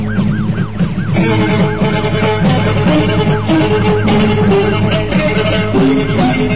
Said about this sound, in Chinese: 巴斯店急中生智，将自己的车略微擦了一下一辆警车的边，警车果然拉响警笛追了上来。